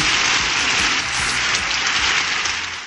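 A crowd bursts into sustained applause, a dense, steady wash of clapping that holds at full strength for a few seconds before beginning to taper slightly at the end. No voices stand out.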